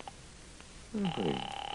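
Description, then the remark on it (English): A telephone rings with a steady, bright electronic tone as a call is placed to a diner, beginning about halfway through and continuing to the end, loud, after a brief warbling sound at the start. “I'm going to get them on the phone right now.”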